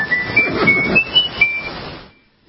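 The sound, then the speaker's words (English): The whistled Old Spice jingle at the end of an Old Spice Super Bowl commercial: a handful of bright, high notes stepping up and down in a quick tune over a busy, muffled musical backing, then cutting off abruptly into silence. “That's the Old Spice jingle, and that was an Old Spice commercial from a Super Bowl.”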